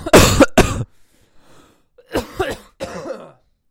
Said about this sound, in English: I've had a cough all week. Get a solid cough in.